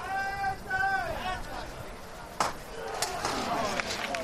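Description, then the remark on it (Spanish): A capataz's hammer knocks sharply on the wooden procession float of the Virgen de la Esperanza de Triana as the float is lifted at the start of the bridge: a loud first strike followed by two lighter raps at a steady beat, after a voice calls out in a drawn-out, wavering tone over crowd murmur. “Suena el martillo, se levanta la Virgen de la Esperanza, que suelta muchísimos pétalos en cada levantada, todos los pétalos que le han caído desde los distintos balcones de su calle de pureza.”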